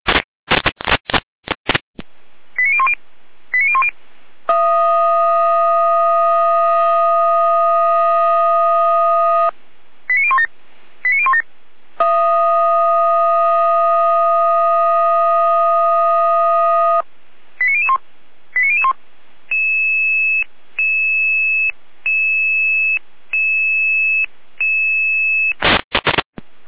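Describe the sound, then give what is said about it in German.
Fire brigade radio alerting tones for a storm callout to fallen trees blocking the road between Batzdorf and Quittelsdorf: quick rising electronic chirps, two long steady blaring tones a few seconds each, then a run of evenly pulsed beeps, loud and clear with no talking. “Bachelor in Alarmierung.”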